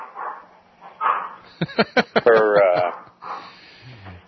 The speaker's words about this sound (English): And let's go ahead and identify the dog in the background